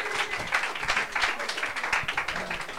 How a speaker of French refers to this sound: Alors, je voudrais qu'on fasse un tonnerre d'applaudissements pour